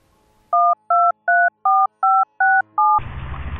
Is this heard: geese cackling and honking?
no